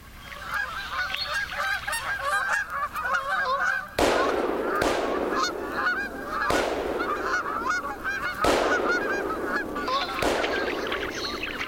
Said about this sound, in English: A large flock of Canada geese on the dark water to the southeast is barely visible. But when we point the microphone with its 3-foot sound-catching parabola in that direction, we can hear them talking.